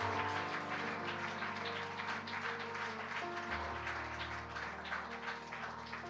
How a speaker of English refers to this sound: Could we just stand? And could we just give a hand clap to this great man of God?